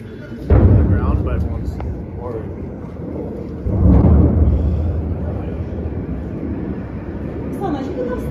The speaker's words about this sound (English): I'm just looking at defense explosions everywhere